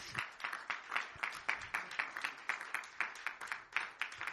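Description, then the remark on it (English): A crowd gives the Lord a clap offering, clapping together in a steady, even rhythm, about four claps per second, sustained and fairly loud, with no voices standing out over the clapping. “So give the Lord a big clap offering.”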